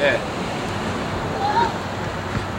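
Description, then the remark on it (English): Hailstones pelt down in a dense, continuous roar of tiny impacts, loud throughout, with a few faint whistling tones drifting over the top. “Hailstones are there on the break.”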